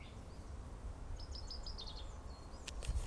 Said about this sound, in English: birds.